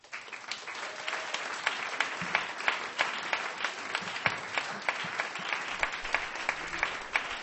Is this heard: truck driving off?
no